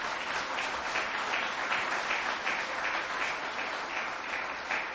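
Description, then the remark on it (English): A crowd applauds the members of the Buffalo Common Council steadily for five seconds, a dense, even wash of many hands clapping at once with no pauses and no voices. “Let's give our council members a round of applause.”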